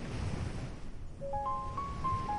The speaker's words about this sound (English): As you step closer, you begin to hear the water. Gentle waves rolling in. Soft water meeting the shore.